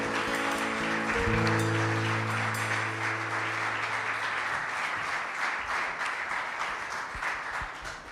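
Steady, loud applause offered to God by a crowd at worship, with many hands clapping in a dense wash, while a sustained low musical tone holds underneath for the first few seconds before fading.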